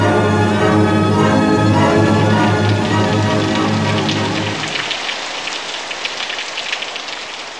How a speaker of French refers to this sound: Nom de Dieu, ce qui pleut. Quelle vache de temps. Ça, c'est une trompe. Un cyclope.